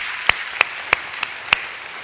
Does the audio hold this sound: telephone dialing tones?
no